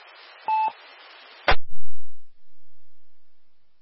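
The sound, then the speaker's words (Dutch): A brief, clear telephone-style tone beeps once over a bed of steady radio hiss, followed by a sharp click as the signal cuts out into silence. “hebben wel telefoon, hè?”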